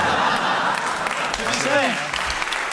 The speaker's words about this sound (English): was waiting for the booing to subside. I'm being hissed.